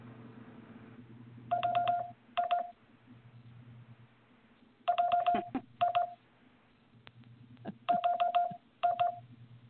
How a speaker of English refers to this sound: And by the way, if you want to listen to what LOL sounds like in Morse code, this is what LOL would sound like using Morse code.